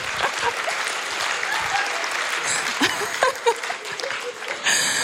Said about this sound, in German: Ja, ein Applaus für den Herrn, super.